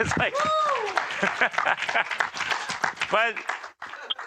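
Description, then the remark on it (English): A crowd at a church applauds everyone who serves making lunches, with a steady, dense patter of clapping lasting several seconds, while voices call out and cheer over the top, including a rising whoop near the end. “Should we just applaud everyone?”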